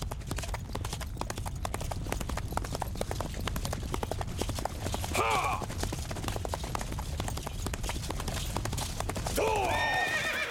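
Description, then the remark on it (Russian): Steady, rapid clip-clop of ridden horses' hooves runs throughout, with two loud, quavering neighs breaking in, one near the middle and another near the end. “Господин Ямаока, дальше на лошадях не проехать, придется идти пешком.”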